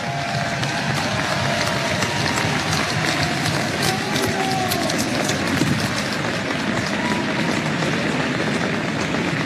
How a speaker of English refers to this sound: PC fans, how about one more round of applause for the undefeated 1990 state basketball champions?